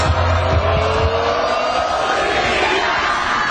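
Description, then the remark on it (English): A large stadium crowd at a volleyball match shouts "Zika" together as an American women's team player runs up and jump-serves, a loud, dense, continuous wall of sound with no single voice standing out, sustained for a few seconds. “This is what the crowd does at that moment.”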